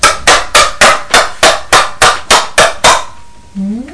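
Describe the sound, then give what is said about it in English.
A rapid, even run of about ten sharp hollow knocks as plastic yogurt pots are bashed together, ending with a brief rising vocal squeal. “Oh, two yogurt pots. Are you bashing them together?”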